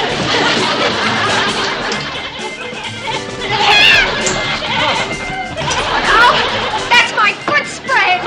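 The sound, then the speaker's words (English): A goat in a bathtub bleats several times in wavering, quavering cries amid a busy mix of overlapping voices and chatter, the bleats rising clearly above the background noise. “Where's the goat? She's in the bathtub.”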